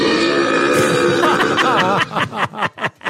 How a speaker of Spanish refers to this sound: Ahí está, un eructo mucho más digno.